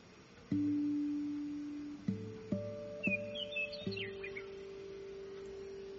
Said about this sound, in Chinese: 鸟儿在枝头欢快地歌唱